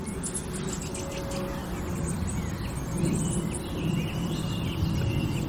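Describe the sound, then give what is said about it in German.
A song thrush sings faintly in the background, its short bright repeating phrases rising above a steady, low outdoor rumble. No one speaks. “Und da hört ihr im Hintergrund jetzt die Singdrossel.”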